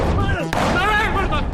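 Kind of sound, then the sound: sound effect, explosion sound effect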